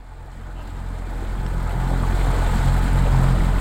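A boat motor hums steadily, its low rumble building slightly louder as the craft moves along, with rushing water and wind noise washing over it. Nobody speaks.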